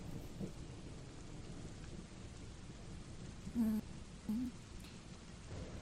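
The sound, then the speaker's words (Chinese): Deep thunder rumbles continuously through steady rain, a low, rolling roar that swells briefly in a couple of spots without ever fading out. “没事儿，就是雷声有点突然”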